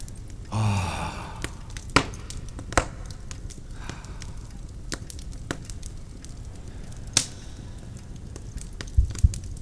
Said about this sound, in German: Ich höre doch deutlich Feuer knistern. Das kommt hier aus der Wand. Eine versteckte Nische. Und darin ein knisterndes, gemütliches Kaminfeuer.